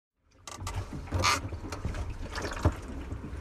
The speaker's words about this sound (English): I'm floating on the water in a kayak. The ocean is in front of me and the sun is shining on my face.